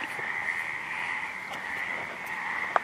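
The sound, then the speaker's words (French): A dense chorus of frogs croaks nonstop on a flooded football field, blending into a steady, shrill drone at moderate volume, with a few individual calls standing out briefly above the mass. No one speaks. “Sur le terrain de foot transformé en piscine, un concours de coassement.”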